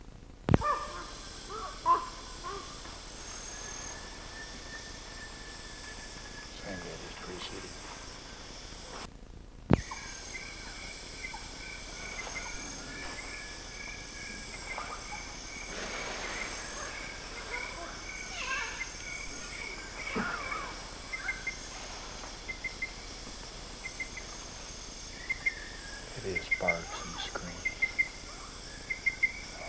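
Harsh, crow-like calls from a bird about 30 to 40 yards away at Coral Preserve sound off intermittently across a steady, droning chorus of insects and crickets. There is no talking.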